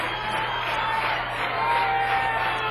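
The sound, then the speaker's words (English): A packed club crowd cheers for a musician's encore, a dense, steady roar of voices with scattered whoops and shouts, holding loud and unbroken for a few seconds. “No question as to whether the crowd wants him tonight. It's packed here at the club, perhaps as much as it's ever been.”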